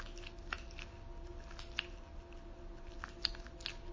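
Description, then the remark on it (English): Soft, wet rhythmic stroking sounds, fairly quiet, with a few sharper squishy clicks standing out over a low steady background hum. No one speaks. “Can you hear? Can you hear me stroking?”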